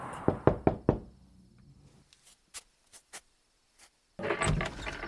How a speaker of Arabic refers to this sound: بعد كل هذه السنوات، وبعد بحثي وقراءتي في كل الأديان السماوية، يدق على بابي خاتم الأنبياء.